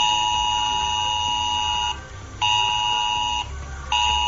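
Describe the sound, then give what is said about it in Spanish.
A loud, steady electronic emergency alert tone, the Generalitat's S-Alert message, on mobile phones of residents in 45 inland municipalities, a harsh multi-pitched buzzing chord that cuts out twice briefly before resuming, with no voices. “Y es que desde las 4 y 16 minutos de la tarde, los vecinos de 45 municipios del interior recibían un mensaje de la Generalitat, el S-Alert, en sus teléfonos móviles.”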